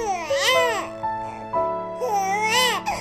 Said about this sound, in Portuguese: Olha aqui nesse cesto. É um bebezinho.